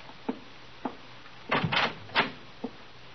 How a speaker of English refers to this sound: Come here, open this door.